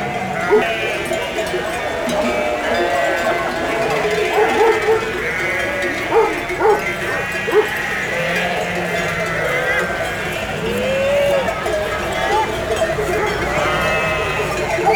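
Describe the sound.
A large flock of ewes bleats continuously, many overlapping calls, with cowbells clanking among Gascon cows in the background and occasional voices, as several herds arrive and are sorted at the Cirque de Campulse.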